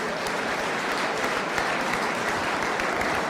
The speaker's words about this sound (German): Applaus auch für dich.